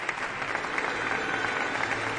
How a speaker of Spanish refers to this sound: Pido un aplauso para Lorenzo Fernández. Gracias.